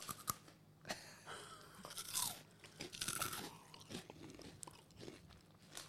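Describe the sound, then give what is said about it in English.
Loud crunching of fried cheese snacks loaded with flaming hot spices being chewed, a steady run of crisp, crackling bites with no talking. “I love the crunch. Big fan of the crunch.”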